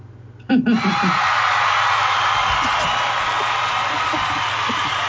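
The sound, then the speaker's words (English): A crowd bursts into sudden, loud laughter and cheering after half a second, a dense roar of voices with chuckles and whoops that stays sustained to the end. “See, the crowd's reaction to that just says it all, doesn't it?”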